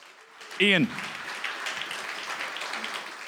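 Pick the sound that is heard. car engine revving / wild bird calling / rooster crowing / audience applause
audience applause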